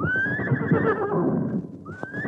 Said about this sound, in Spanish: El caballo también se despide.